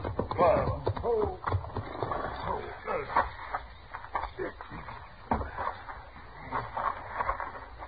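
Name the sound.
horse hooves clip-clopping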